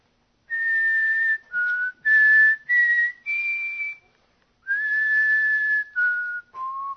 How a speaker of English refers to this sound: So I started whistling. You know how you whistle?